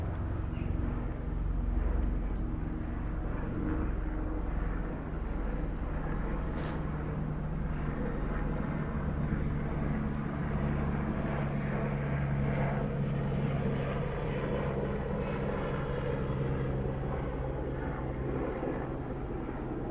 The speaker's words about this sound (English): That sounds like a helicopter, doesn't it? Love the sound of helicopters. Absolutely love that compared to an aeroplane. That's wonderful stuff.